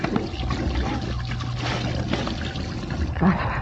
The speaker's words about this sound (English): I'm going to splash some water on my face.